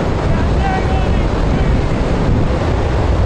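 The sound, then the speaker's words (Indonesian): A powerful, steady blast of wind roars inside the Glenn L. Martin wind tunnel, simulating hurricane winds up to 140 km per hour. The rushing is dense, unbroken and loud throughout, with a faint voice briefly buried beneath it. “Untuk memahami kekuatan angin ribut, VOA merasakan langsung terpaan angin dalam terowongan angin Glenn L.”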